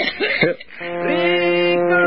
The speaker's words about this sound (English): Coughing.